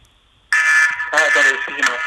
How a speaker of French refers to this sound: Attendez, excusez-moi, j'ai le téléphone qui sonne.